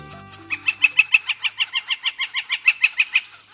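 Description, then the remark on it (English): Northern flicker parents call in a rapid, steady series of sharp, ringing notes, roughly five per second, loud, urging their chicks to fledge in a North Carolina forest in May. A low musical tone fades out at the very start. “of a time in May in the forests of North Carolina when he heard northern flicker parents urging their chicks to fledge.”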